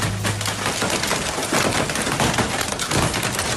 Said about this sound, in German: Ich habe gedacht, da klettert einer über mein Dachfenster und wollte erst mal gucken. Ich habe da so eine Rollo davor und habe ich gemerkt, nee, das ist Hagel. Da scheppert's richtig runter, die Hagelkörner.